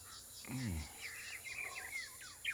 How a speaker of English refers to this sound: Oh, that bird is loud.